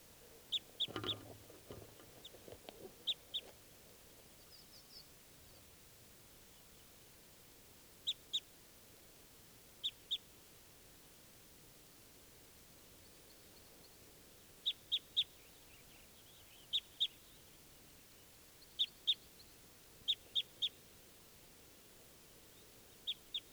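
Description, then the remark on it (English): A wild bird calls in short, high-pitched chirps, usually in quick pairs or triplets, repeating every couple of seconds over a quiet, steady background hiss. “There's another wild bird.”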